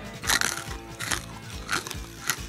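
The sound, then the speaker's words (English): A dog, Drover, noisily crunching hard, dry, yellowish dog food kernels from a 50-pound sack, with four loud, crackly bites spaced unevenly over a couple of seconds and softer chewing between them; no one speaks. “Do you suppose you could be a little quieter in chewing your food?”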